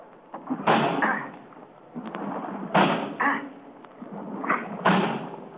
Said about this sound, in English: I'm going to try to break down the door.